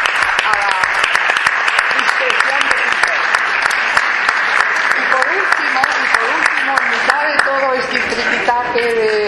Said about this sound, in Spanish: Así que le dedico un aplauso.